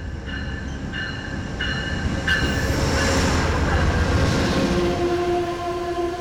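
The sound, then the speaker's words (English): A Hartford Line passenger train rumbles loudly and steadily, with a few quick repeated high tones early on and drawn-out metallic whines rising over the roar later; no one speaks. “Amtrak and CTDOT are working together to resolve the crowding issues that are occurring on some Hartford line trains.”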